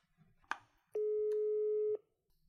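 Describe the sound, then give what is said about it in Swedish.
A phone's ringing tone while a call is being placed: one steady, loud, one-second electronic beep at a single pitch, preceded by a brief click and followed by quiet, with no one speaking. “Nu ringer man honom.”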